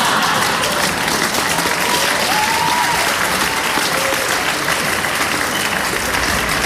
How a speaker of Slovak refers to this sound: Čiže patrí to podľa mňa ku každému jednému sitcomu. Je to taký symbol práve toho sitcomu, keď na každom vtipe sa smeje nejaký dav ľudí a s ním sa smejú aj ľudia, čo pozerajú ten seriál.